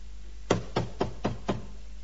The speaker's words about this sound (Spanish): No, usted no atiende. Tocan el timbre.